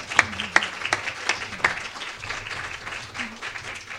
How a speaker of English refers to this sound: So let's give Sarah Luna a big round of applause.